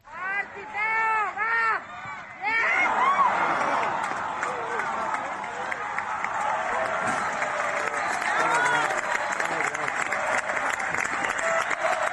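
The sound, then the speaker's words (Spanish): A stadium crowd of Andratx supporters lets out a short, wavering collective groan after a missed penalty in a Copa del Rey penalty shootout, falls silent, then bursts into loud, sustained applause with scattered shouts that carries on steadily to the end. “Pues ahí habéis escuchado el lamento, el silencio, que es seguido de aplausos de la afición del Andratx.”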